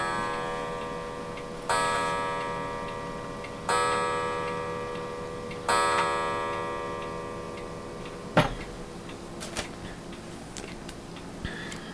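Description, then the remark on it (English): A clock chimes three times, evenly spaced about two seconds apart, each resonant bell-like tone ringing out and slowly fading, followed by a few sharp, scattered clicks. No one speaks. “I'm not going to argue with the chiming.”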